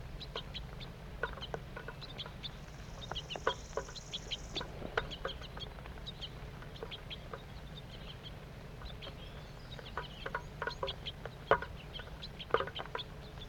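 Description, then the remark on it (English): A flock of birds, two juveniles and two adults, calls while feeding, giving many short, sharp chips and chirps in an irregular, busy scatter over a steady low background hum, with no voices. “Two juvenile birds and two adults. Stop. Start recording. Feeding's now occurring.”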